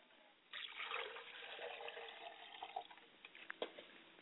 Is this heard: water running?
yes